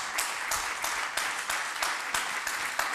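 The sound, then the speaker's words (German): Steady applause from the left side of the audience, dense overlapping claps with sharper individual hits standing out every fraction of a second, fairly loud and sustained throughout without speech. “Der Beifall kommt von der linken Seite.”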